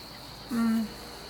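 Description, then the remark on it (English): A steady, high-pitched drone of crickets and cicadas runs unbroken through the quiet outdoor air on a balcony, with a short hummed voice briefly rising over it midway. “Do you hear all those cricket and cicada noises or whatever that is?”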